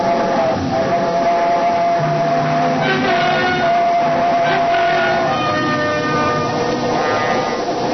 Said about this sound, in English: It was only the train going through the tunnel, but it brought it all back. A scream and the train roaring by, the whole house shaking.